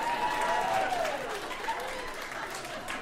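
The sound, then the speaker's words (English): An audience in New York clapping steadily for a few seconds, answering a comedian's call to clap if they like their roommate. The applause is dense and continuous, with a whoop or whistle rising briefly above it. “Yeah, clap it up if you like your roommate.”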